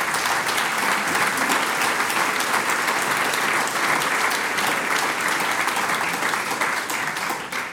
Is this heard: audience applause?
yes